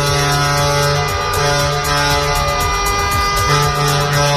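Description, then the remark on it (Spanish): Many truck horns blare at once in a loud, sustained chorus of overlapping tones from a protest convoy of dozens of truckers on the eighth day of a transport-sector strike in Spain. Steady traffic rumble runs underneath, and there is no speech. “Sinfonía de viento a golpe de claxon en una nueva caravana de protesta con decenas de camioneros.”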